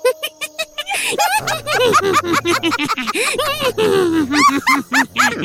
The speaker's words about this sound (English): Didn't you hear what I said about the dog wolf demon things?